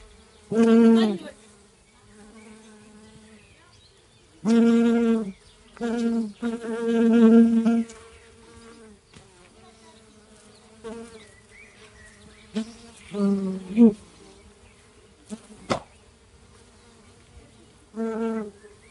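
Bees buzz in loud, droning bursts that swell and fade as they fly past, with quieter humming in between and a brief sharp tick near the end. No one speaks.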